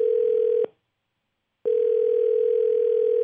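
A loud, steady telephone dial tone hums for about half a second, cuts out for a one-second silence, then returns and holds unbroken to the end, with no voices, as the Streets Morning Takeover radio show on Streets 94.5 places a phone call.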